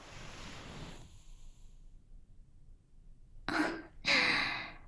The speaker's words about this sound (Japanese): あら、大きなあくびね。少しだけ疲れが残っているのかしら。